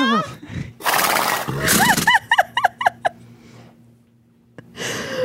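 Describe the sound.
A person imitates a horse with a breathy vocal whinny that breaks into a rapid series of quavering, descending pulses, loud, followed by a brief quiet and the start of more voice.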